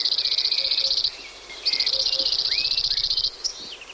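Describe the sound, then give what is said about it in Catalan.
Two dry, rapid, single-pitched trills of a cirl bunting (Emberiza cirlus), each rattling for about a second or more, with a short pause between and a few faint chirps from other birds, in farm fields near the course of the Gaià river. “Gratapalles, Emberiza quirlus. Au que trobem als camps de conreu, pròxims a tot el curs del riu.”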